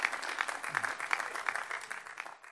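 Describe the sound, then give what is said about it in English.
An audience at the Greenbelt Festival applauds the speakers and panelists at the end of a talk, many hands clapping in a dense, continuous patter with no voices, holding its level before tapering off slightly at the end. “Can we have one last big round of applause for everyone who's been part of this,”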